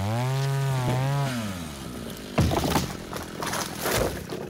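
A chainsaw engine revs loudly with a buzzing, wavering pitch, then gives way to rough, gritty noise as if biting into wood, continuing in uneven bursts.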